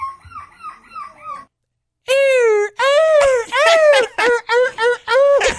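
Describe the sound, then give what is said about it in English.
A human voice imitates a crying puppy: a run of soft, short whimpers, a brief pause, then a series of loud, high, wavering whines rising and falling in quick succession. “Like a crying puppy. It sounds like a puppy at the back door.”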